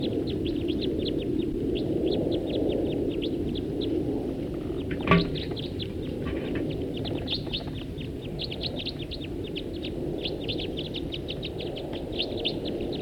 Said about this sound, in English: One bird took off. There go some others. Those are the ones that took off. Now back to the one that stayed. At least one stayed here. Another one just flew over.